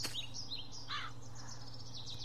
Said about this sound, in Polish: O, i teraz nawet ptaszki śpiewają. Coś się zaczęło tu tak, dziać. Jeżeli ptaszki śpiewają, to znaczy, że tu jest las.